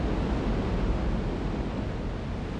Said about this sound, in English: And for those who really want to feel the force of the water, the hurricane deck is about as close as you can get. With a short climb, you can get right up next to the falls and get pretty wet too.